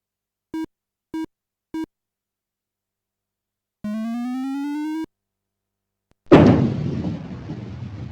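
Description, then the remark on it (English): Three quick electronic beeps and a rising synthetic tone, then a loud crash as a bowling ball strikes and knocks down all 10 pins, clattering and fading over about two seconds. No one speaks. “You got a strike. The ball hit the mark for a total of 10 pins knocked down in the frame.”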